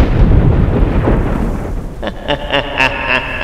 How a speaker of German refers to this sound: Plötzlich beginnt es zu donnern, der Himmel färbt sich schwarz und ein schemenhaftes Gesicht ist am Himmel zu erkennen.